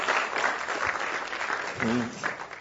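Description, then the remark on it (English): A steady burst of audience applause, dense clapping that stays loud throughout, with a brief voice or cheer rising through it near the end. “So big applause for her.”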